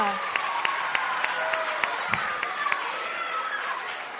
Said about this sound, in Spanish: Dos futbolistas del Albacete Balompié, Agus Medina. Un aplauso para los John Morcillo.